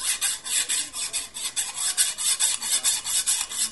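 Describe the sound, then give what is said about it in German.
A hacksaw rasps steadily through a metal tow chain from a bus, with about fifteen quick back-and-forth strokes in an even rhythm, bright and gritty, moderately loud with no talking. “Ich hol schon mal die Eisensäge.”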